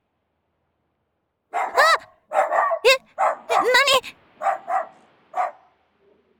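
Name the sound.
stray dog barking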